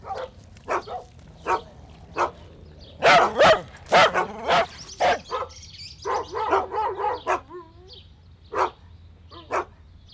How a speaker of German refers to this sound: Das ist ja eine richtige Hundemusik.